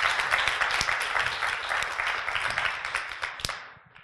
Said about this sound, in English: They're giving you applause for releasing it, for giving it to someone else, for praying. Okay, so give them a round of applause for praying. Good job, guys.